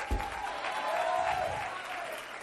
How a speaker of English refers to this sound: But all you clapping your hands, you understand this.